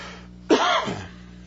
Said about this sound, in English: By the way, that's the lingering cough from my malaria. I've been more sensitive to my malaria since I've had my hysterectomy.